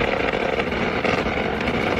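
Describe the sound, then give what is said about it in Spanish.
A United States air defense system fires several interceptor projectiles at Iranian missiles during a drone attack on the US embassy in Baghdad, in a sustained, loud, dense roar of rapid fire that runs unbroken for the full two seconds, with no voices. “Esto que escuchamos es el sistema de defensa de Estados Unidos disparando varios proyectiles para intentar interceptar los misiles iraníes durante el ataque con drones a su embajada.”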